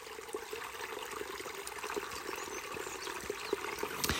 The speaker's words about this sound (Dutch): Dat is de reden waarom ik hier bij dit prachtige beekje zit. Ik weet niet of jullie het kunnen horen, maar er zijn heel veel vogels.